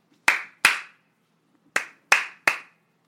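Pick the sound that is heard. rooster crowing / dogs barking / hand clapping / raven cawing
hand clapping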